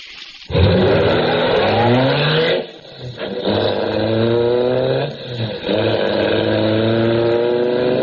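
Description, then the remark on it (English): A loud car engine roars and accelerates hard, its pitch climbing steadily, then dipping briefly twice as it shifts gears before surging again, continuous with no voices. “Now I'll race to the waterfall. I'll go as fast as a car.”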